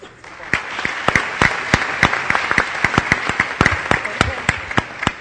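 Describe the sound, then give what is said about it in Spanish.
Steady applause from a crowd at a ceremony announcing the ten winners of a story contest, for a student winner and former president Belisario Betancourt, with many sharp individual claps standing out over a continuous dense patter that holds at an even level for several seconds. “Creo que el aplauso es para ambos, me parece.”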